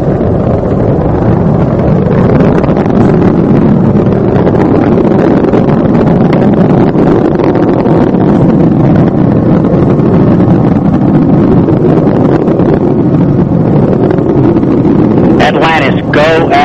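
A deep, continuous roar of the space shuttle's three liquid-fuel main engines revving up during ascent, loud and steady for the whole stretch, with a brief rising higher-pitched whine near the end.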